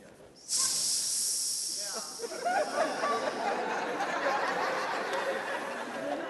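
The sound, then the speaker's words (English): A voice imitates a snake, letting out a sharp, sustained hiss that starts abruptly and carries on loudly, joined after a moment by murmuring and chatter underneath. “Because every now and then the snake will hiss.”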